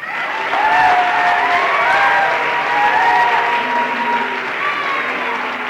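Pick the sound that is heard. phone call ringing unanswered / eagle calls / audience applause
audience applause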